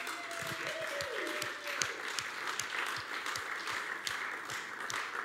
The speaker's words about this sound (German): Geben wir doch einen Applaus unserem lebendigen Sonnensystem.